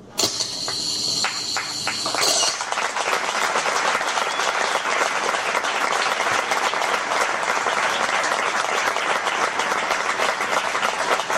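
Loud applause from a large crowd for the Santa Tecla 2014 pandonista, a dense steady roar of clapping that swells in after a brief start and holds at full strength to the end, with no voices standing out.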